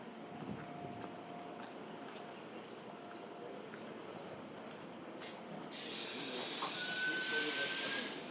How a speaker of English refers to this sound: And just as I spoke, here comes the train. It didn't, it was coming so quietly I didn't notice.